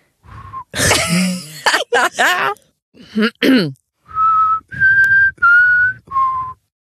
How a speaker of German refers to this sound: ja, dann kannst du aber nicht pfeifen. Kannst du pfeifen?